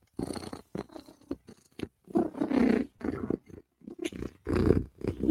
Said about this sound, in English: Listen, and when cat is purring, cat is a happy, happy girl. You get a 2-for-1. You get a meow and a purr.